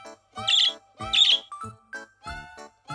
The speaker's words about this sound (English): The girl in the yellow skirt has a bird. My bird is a good singer, says the girl.